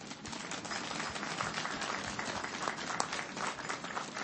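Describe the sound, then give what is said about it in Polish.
Steady, dense audience applause as people at a Christmas gathering in a barn greet one another, many hands clapping at once, sustained at an even level throughout without any voices standing out. “Dlatego siebie nawzajem, kochani, przywitajcie bardzo gorącymi oklaskami.”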